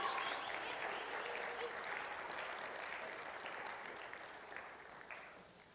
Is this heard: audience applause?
yes